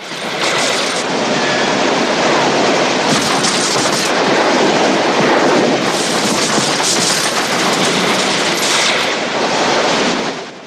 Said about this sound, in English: Officers continue to rain bullets down on the battered bus.